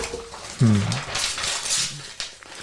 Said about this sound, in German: Muss ich umblättern.